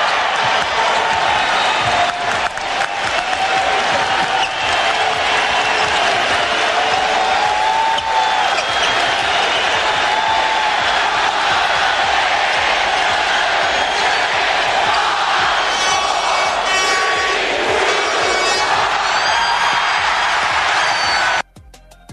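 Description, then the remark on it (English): A huge crowd at the Forum roars without letup as the Lakers win their 10th NBA championship, 106-93 over the Celtics in Game 6: a dense wall of cheering, shouting and whistling that swells over about twenty seconds, with scattered sharp bangs and claps cutting through the din. “I want you to listen to the crowd. It's amazing.”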